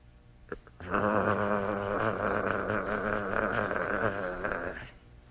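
A sustained, rumbling growl lasting about four seconds, steady and fairly loud throughout, with a brief click just before it starts and no talking.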